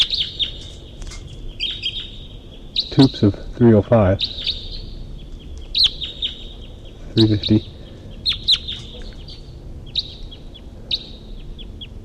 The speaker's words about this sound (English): And there's a wild bird. A wild bird at least flew over. And it's calling from the distance.